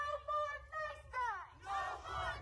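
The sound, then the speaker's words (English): A surging crowd of marchers continuing the march down Broad Street in Bridgeport shouts and chants together in loud, rising bursts, many raised voices blending into a roaring surge with brief dips between calls. “Then the now surging crowd continued the march down Broad Street.”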